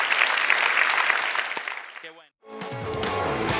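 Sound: audience applauding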